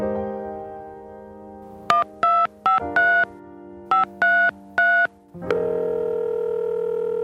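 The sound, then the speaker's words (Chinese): A steady telephone dial tone is interrupted by seven quick, evenly paced touch-tone beeps as a number is dialed, then a new steady tone takes over. Clear, with no voices. “一个电话连上你和我， 一句问候温暖彼此心， 你说我听， 连线交流，守望祷告，空中辅导，电话连线。”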